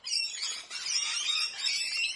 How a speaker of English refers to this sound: Okay, if you wanted to hear that, that's parrots fighting. It was about four parrots up in a tree having a territorial fight.